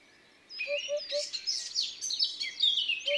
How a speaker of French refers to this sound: Ce houp-houp-houp, au loin, c'est une huppe.